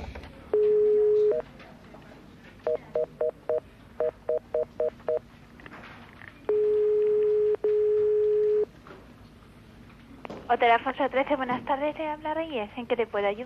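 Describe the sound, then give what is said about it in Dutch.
A phone line as an important call is placed: a steady tone, quick runs of keypad beeps, then a long ringback tone broken by one short gap. Ringing stops and a voice answers over the line. “Doe ik nog even een belangrijk telefoontje.”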